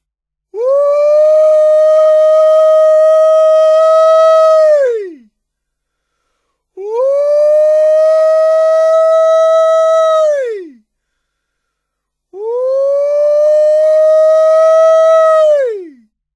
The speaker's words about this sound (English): This is the word used to describe the exultant, high-pitched, screaming yell sounded by a person who has seen the fox. Anyone may holler a fox. The intention of sounding a holler is to inform the huntsman that a fox has been seen.